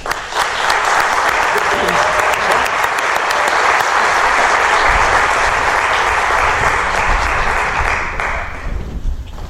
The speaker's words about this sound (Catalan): Per tant, us demanaria un aplaudiment pels companys de Pas Gràfic,